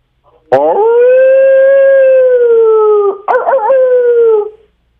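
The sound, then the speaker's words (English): A man's voice imitates a wolf howling at the moon: a loud, sustained rising wail held for a few seconds, then a brief break into a wavering, yodeling second howl that trails off. “Howling at the moon like a wolf.”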